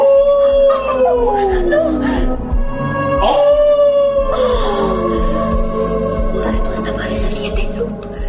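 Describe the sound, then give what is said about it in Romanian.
A huge wild wolf howls loudly, long wavering cries that glide down in pitch and overlap one another, carried over a steady low rumbling background for several seconds. “De lup sălbatic și uriaș.”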